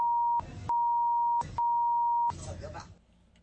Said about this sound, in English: You know, you lose a lot in the beeping. You really do. There were several fuck-offs.